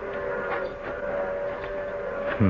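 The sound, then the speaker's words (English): The whistle of an approaching train sounds as one long, steady, mournful tone that holds at an even loudness for the whole stretch, with a faint low rumble beneath it and no voices. “The train's coming.”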